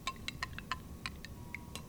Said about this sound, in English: I've just put the glass on the base of the syrup urn, and now I'm dispensing 1 ounce of the syrup. You remove the glass, add the carbonated water. Give it a quick stir.